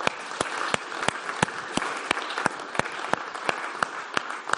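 An audience at a Christian gathering applauds steadily for several seconds, giving the Lord applause for an initiative to bring the gospel to European youths. A dense wash of many clapping hands, with a few sharper individual claps standing out at a fairly regular rhythm.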